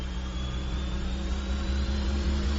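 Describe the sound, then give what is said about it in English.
A steady, loud mechanical roar with a deep droning hum from centrifuges spinning up wildly at high speed, resembling a jet engine. It continues unbroken with no talking. “But those centrifuges are potentially spinning up wildly. A huge noise would occur. It'd be like, you know, a jet engine.”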